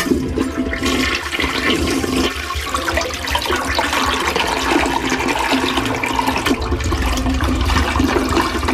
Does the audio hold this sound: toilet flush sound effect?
yes